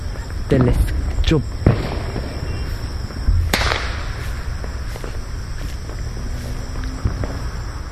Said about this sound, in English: Now while we're looking for Saturn, we can listen to the fireworks. We can hear the echo. It's actually coming from behind.